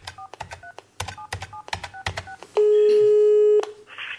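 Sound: telephone dialing a call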